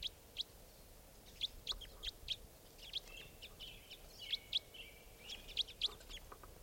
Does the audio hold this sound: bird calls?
yes